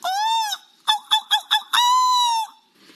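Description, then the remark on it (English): A BBC reporter mimics a seagull: a long, nasal wailing cry, then four quick clipped yelps, then another drawn-out cry that trails off. No other voices are heard. “I can feel that you really want me to do an impression of a seagull, so I'm going to give it a go.”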